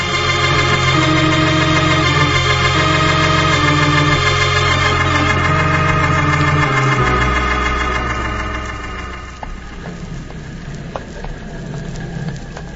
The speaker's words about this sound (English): How's that engine doing, Ned? Yeah, going slick as a whistle.